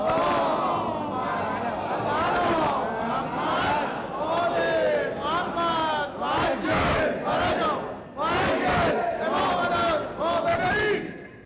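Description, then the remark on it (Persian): A large audience chants salawat together in unison, offered to the spirit of the late Imam and the martyrs, many voices rising and falling in loud, sustained rhythmic phrases that run throughout, with brief dips between lines. “تقدیم به روح ملکوتی امام راحل و شهدای بالا مقام اسلام، مخصوصا شهدای این سرزمین، صلوات اهدا بفرمایید.”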